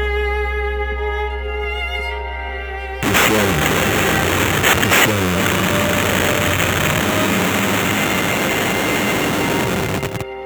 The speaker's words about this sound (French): J'entends des avertisseurs de camions. Plusieurs fois.